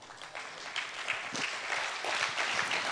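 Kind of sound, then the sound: crowd, audience clapping hands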